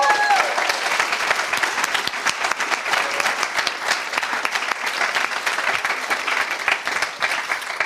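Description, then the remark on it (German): An audience applauds steadily, dense overlapping claps forming a bright, continuous crackle that holds at an even loudness for several seconds with no talking over it. “Machen wir mal ein bisschen Applaus”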